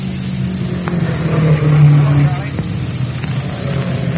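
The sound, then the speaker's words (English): Race car engines roar steadily and loudly on the track, with one engine note swelling and shifting as a car passes midway through, as Floyd Roberts passes George Bailey in a new rear-engined car, against a constant background rumble. “Floyd Roberts is passing up George Bailey, who's driving that new car with the engine mounted in the rear.”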